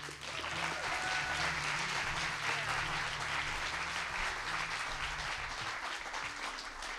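A crowd applauds steadily for several seconds, a dense even wash of clapping hands that stays at a constant loudness with no voices on top.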